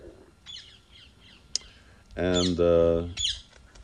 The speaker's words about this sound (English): And so what to speak of content, maybe you can hear the parrots up there.